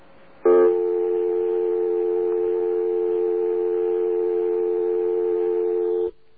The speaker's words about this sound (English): And you cannot speak over that dial tone. That's a normal dial tone if you don't say anything.